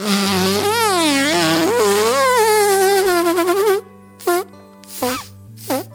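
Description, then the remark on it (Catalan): A comic fart sound effect of an ox breaking wind: one long, buzzy, wobbling blast lasting several seconds, followed by three short, sputtering puffs with brief gaps between them. “Quan el bou farà un pet, sortirà en Patufet!”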